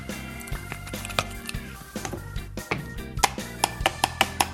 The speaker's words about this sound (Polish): Jogurt naturalny wylądował w blenderze, teraz dodajemy dwie łyżki masła orzechowego.